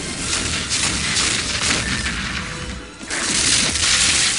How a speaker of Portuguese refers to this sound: Os canhões cuspiram fogo dos dois lados.